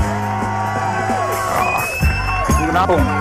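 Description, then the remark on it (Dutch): A lively audience cheers and whoops over a dense wash of crowd noise, with shouts rising and falling, fairly loud, and no clear speech in the mix. “Het applaus is voor jou.”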